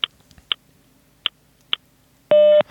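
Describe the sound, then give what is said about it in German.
A telephone time-announcement hotline gives four short, sharp ticks spaced about half a second apart, followed by a single loud, steady electronic beep lasting around a third of a second marking the announced time. “Beim nächsten Ton ist es 12 Uhr 14 und 0 Sekunden.”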